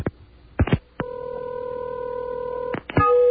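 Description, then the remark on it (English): A few handset clicks as a telephone is picked up, then a steady dial tone hums for nearly two seconds before breaking off into another click and a new electronic tone as a number is dialed to call a radio station; no voices. “Now, what I'm going to do is I'm going to pick up the telephone here, get a little dial tone, and dial this number.”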